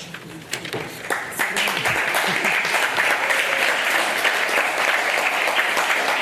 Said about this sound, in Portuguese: Ai, as palmas fazem-me tão mal.